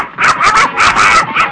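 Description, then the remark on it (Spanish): A watchdog barks and yips excitedly, a rapid string of five or six sharp, high, loud yaps with barely a pause between them. “¡El mejor perro velador que jamás hayamos tenido en la vida!”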